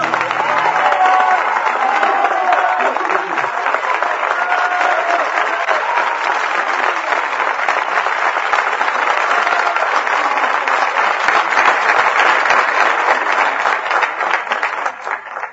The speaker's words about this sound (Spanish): Con aplausos, obviamente, el incendio del compadre de y por Armando Tejada Gómez.